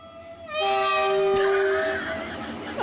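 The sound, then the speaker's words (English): A "Trubisky train" sound effect: a loud, sustained train horn blares with steady harmonic tones for about a second and a half, with a rumbling rail-noise layer underneath that fades out as the blast ends. “Woo-hoo! It's the Trubisky train.”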